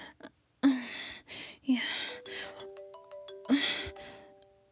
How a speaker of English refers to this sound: Is that my phone?